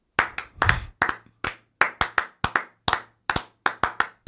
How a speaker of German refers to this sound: Schweigeklatschen ist die beste Idee. Eine Minute lang klatschen.